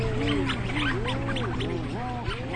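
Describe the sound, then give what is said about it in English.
A dense chorus of low, rising-and-falling mooing calls from rhinoceros auklets, out of their burrows and socializing, overlaps continuously, with brief higher doo-doo chirping notes from storm petrels scattered on top and a steady low hum beneath. “And that one is where you have really, really, really loud mooing, and then there's a couple doo-doo-doo-doos tossed in there from the storm petrels.”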